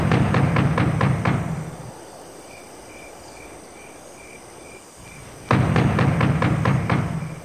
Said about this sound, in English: While they were busy knocking at the door, they did not notice an old shadowy figure come to the window.